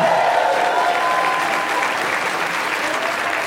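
A live audience at a New York show bursts into steady, dense applause for a sit-in piano player, loud and continuous throughout with a faint whoop or two mixed in, tapering only slightly toward the end.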